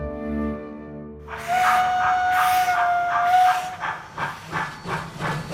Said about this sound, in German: Mit der Dampflok.